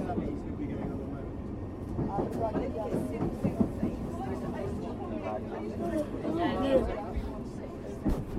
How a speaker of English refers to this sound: So I recommend just one more Piccadilly line train behind us, and that wouldn't have got us in time.